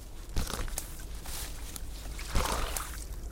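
A paper map rustles and crinkles as it is pulled out and handled, with two sharper crackling bursts amid steady soft rustling, no voices.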